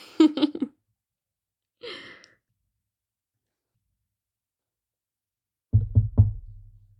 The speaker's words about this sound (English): I'll knock.